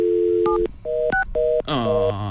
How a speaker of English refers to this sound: Yeah. Let's see. Yeah. Oh, there's dial tone.